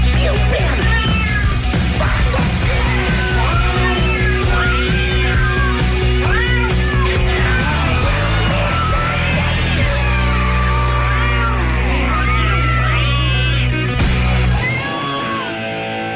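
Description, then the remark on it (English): Cats meow over and over, their rising and falling cries overlapping loudly against a steady droning musical backdrop that runs nearly the whole time before dropping away at the end. “Cats hate it.”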